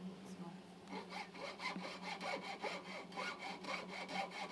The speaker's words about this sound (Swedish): Och sen tar jag en sån här och sågar.